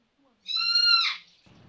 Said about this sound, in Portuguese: Acho que o foi um papagaio daqui de casa que acordou. Fez a porta e ele parou de zoada.